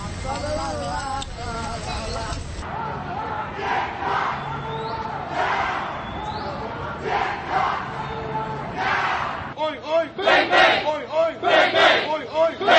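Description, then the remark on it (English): A protest crowd chants "oink, oink, bang, bang" in unison, loud rhythmic shouting with repeated vocal bursts, growing more forceful and pulsing toward the end, with a general crowd roar underneath. “What about their chant? Oink, oink, bang, bang. Did you hear the chant?”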